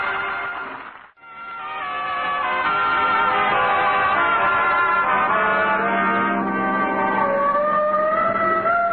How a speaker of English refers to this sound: Oh, the siren. Now, that's on our car. I put it on this morning.